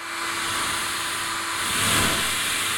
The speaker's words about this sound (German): Wenn ihr den Föhn so haltet, dass er im rechten Winkel am Mikrofon vorbeibläst, hört sich das dann so an. Ihr könnt den Ton auch variieren, indem ihr das Gebläse des Föhns näher ans Mikrofon haltet.